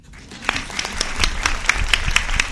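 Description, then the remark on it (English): A small group claps steadily because a bill in the Health and Human Services Committee is not dead, with sharp, fairly regular hand claps rising in strength over a couple of seconds, moderately loud with no talking. “So let's all clap.”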